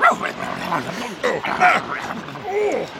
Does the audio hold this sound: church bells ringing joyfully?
no